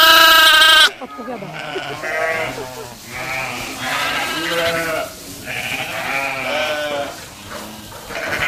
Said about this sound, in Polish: To jest rasa wielkopolska. Też zachowawcza rasa, rodzima rasa owiec.